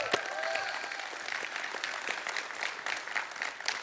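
Steady applause from an audience, a dense, even patter of many hands clapping throughout, with a faint brief whistle near the start and no talking.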